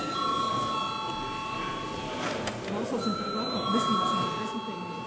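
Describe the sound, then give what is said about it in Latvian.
The Saeima parliament chamber bell rings continuously as a steady electronic tone that shifts in pitch partway through, called before a vote on recessing the sitting, over a low murmur of voices. “Lūdzu, zvanu.”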